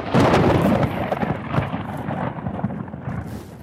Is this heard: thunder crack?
yes